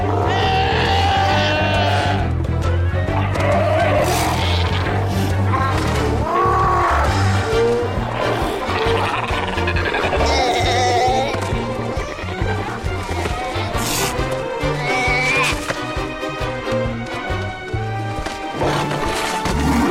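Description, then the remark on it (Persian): A dense chorus of sea lions calling on a beach as they all get up, overlapping bleating, honking barks at varied pitches, loud and continuous throughout with no pauses. “ولی حالا همه شیرهای دریایی بلند شدند. از بین آنها رد شدن نیاز به مهارت دارد.”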